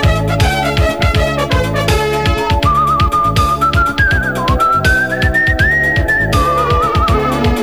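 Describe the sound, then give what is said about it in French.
A bright whistled melody glides over a steady, full band accompaniment with a bouncing rhythmic beat, the tune carried clearly and prominently through the recorded song without any voices. “Je suis venu vous siffler que c'est enfin le temps des petits oiseaux qui reviennent.”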